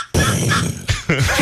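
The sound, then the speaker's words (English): A Woodhaven box call, a friction turkey call, imitates a turkey's purr: loud, raspy rolling tones in a few connected bursts with brief breaks between them. “You can make it purr. Probably needs a little more chalk, but.”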